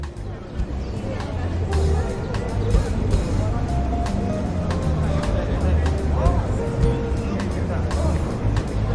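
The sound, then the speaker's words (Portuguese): A busy street in Cinelândia, Rio de Janeiro, on a 1940s night, with old cars passing: engine rumble and drone throughout, mixed with a steady murmur of crowd chatter, evenly loud with no pauses. “Primeiro, escuta aí o som da rua, dos carros antigos passando.”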